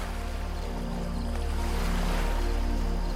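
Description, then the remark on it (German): Water gurgles softly under moonlight at night as small waves move to the shore and draw back in a steady, continuous wash, with a low rumbling undertone and no voices. “Das Licht des Mondes beleuchtet das Wasser und du hörst es leise gluckern.”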